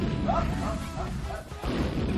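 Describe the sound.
A voice imitates an explosion with a loud, rough, sustained rumbling burst of breathy noise lasting about two seconds, briefly dipping near the middle before swelling again. It sounds continuous.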